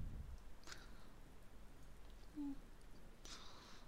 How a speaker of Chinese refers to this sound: 睡不着了，打雷了。我害怕啊。